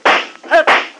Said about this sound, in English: What the? Those shots came from the door.